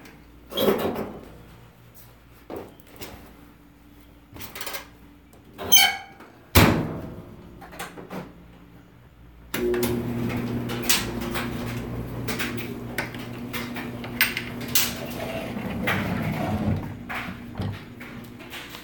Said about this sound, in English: I'm just gonna throw these in the dryer for you.